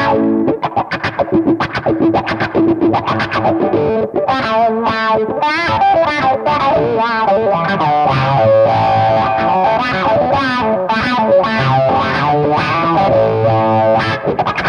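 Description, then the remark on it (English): Distorted electric guitar played through a mini effects pedal on a pedalboard, with chugging low notes and ringing chords in a loud, steady, continuous passage, layered with modulation and no voices. “I use all of them, but this one's great because it's very, you know, got all the control in it. And it's not taking up valuable real estate on your board.”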